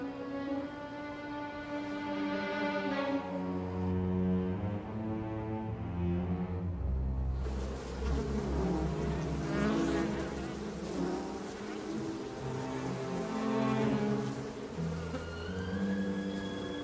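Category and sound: insect, bees buzzing around beehives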